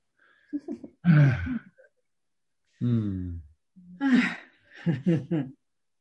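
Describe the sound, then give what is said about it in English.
Loud breathing sounds: a series of heavy, voiced exhales and sharp intakes, like sighs and gasps, in irregular bursts separated by short silences. “Just breathing.”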